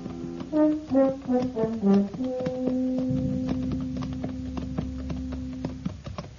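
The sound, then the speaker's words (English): Horses being ridden at noon up the almost deserted main street of El Cater clip-clop on the hard street in a steady, unhurried rhythm of sharp knocks, heard over a brief melodic phrase that settles into a long sustained low tone. “It was noon of the second day when we rode up the almost deserted main street.”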